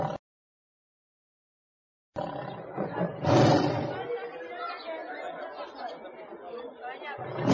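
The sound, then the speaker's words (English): After a couple of seconds of silence, lions roar loudly, with one especially powerful roar followed by a continuing rumble of growls and grunts. “What are they? They are lions.”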